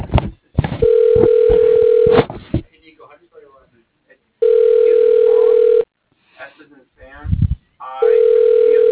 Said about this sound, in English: Hang up. Direct hang up.